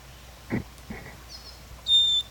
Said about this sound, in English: Wildbird in the background. Wildbird. This is a female. These are all wild birds.